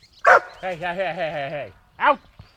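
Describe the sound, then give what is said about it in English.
A dog named Boomer gives a sharp bark, then a drawn-out, wavering whine-like howl, then a second short bark, all fairly loud with no one talking. “His dog, Boomer, likes to chase him.”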